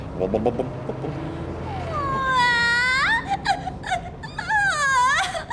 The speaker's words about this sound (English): Hello, little girl. What are you crying for?